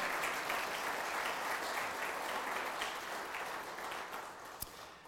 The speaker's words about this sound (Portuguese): Quem pode aplaudir ao Senhor por isso?